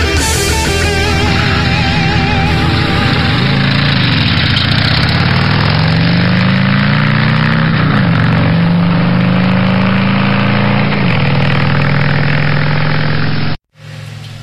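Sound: harley-Davidson motorcycle engine idling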